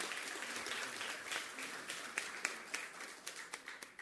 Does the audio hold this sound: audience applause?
yes